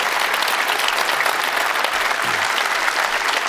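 Steady, dense applause from a crowd honouring referee Dr. Felix Brych, about to become Germany's record Bundesliga referee, many hands clapping at once in a continuous, even roar of crackling claps with no pauses, loud throughout.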